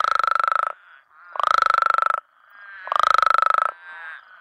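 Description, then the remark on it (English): Three loud, croaky baritone trills from male Mexican spadefoot toads, each about a second long with a rapid pulsing buzz, separated by short pauses, with fainter calls in the gaps between them. “It's the Mexican spadefoot toads, one word difference in the species name, but they do sound pretty different.”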